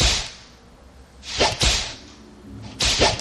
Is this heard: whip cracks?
yes